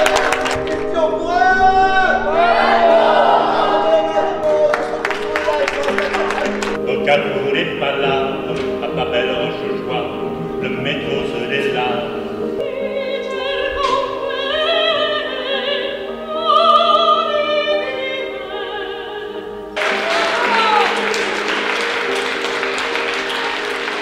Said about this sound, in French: C'est une victoire très nette des PR ce soir, on les applaudit très très fort.